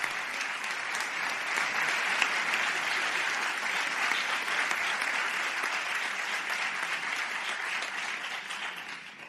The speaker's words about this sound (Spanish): El aplauso para los doctores en Salud Pública, Ciencias Médicas y Quirúrgicas.